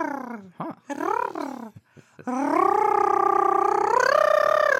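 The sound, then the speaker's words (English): A few short voiced syllables give way to a long, steady rolled-tongue trill, a loud buzzing rattle that holds for several seconds and lifts slightly in pitch near the end. “Listen to you rolling your tongue.”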